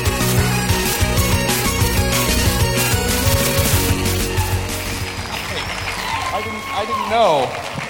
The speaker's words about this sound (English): I have a feeling that applause is mostly for those little teeny songs to stop finally.